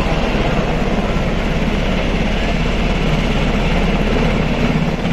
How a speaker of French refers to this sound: On entend ici le son d'un hélicoptère à la frontière polonaise à Kuznica.